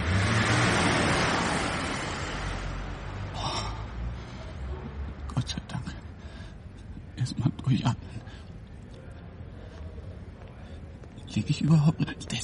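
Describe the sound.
A car drives past, its loud, rushing swell filling the first couple of seconds before fading away. Afterward only a low background hum remains, with brief bursts of people talking.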